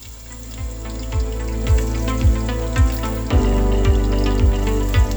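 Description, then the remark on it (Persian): A steady sizzle of herbs frying in oil in a nonstick pot, after first being dry-fried to drive off their water, with soft, regular knocks about twice a second, like a spoon stirring the pan. No one speaks. “بعد از اینکه آبش گرفته شد بهش روغن اضافه کن.”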